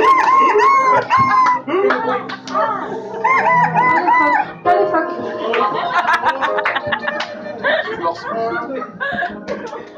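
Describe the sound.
Someone imitates seagull cries with their voice, a loud string of squawking, wavering calls that rise and fall, repeated almost without pause for about ten seconds.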